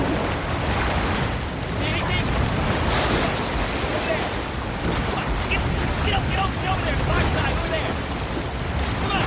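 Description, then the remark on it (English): Loud, continuous roar of rushing river rapids, with churning, splashing water and wind buffeting the microphone as a raft is paddled through an intense stretch of whitewater rapids. “paddles the raft through an intense stretch of rapids.”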